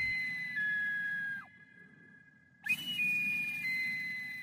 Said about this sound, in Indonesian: Saya memasukkan banyak suara binatang itu. Jadi ketika saya keluar dan memainkan alat musik saya, suara suling itu menarik semua jenis binatang.